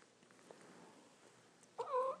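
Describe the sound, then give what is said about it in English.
A single short meow from a cat named Mickey rises suddenly near the end, clear, after a stretch of quiet low rumble that may be soft purring. No one speaks. “Oh, there's the Mickey kitty.”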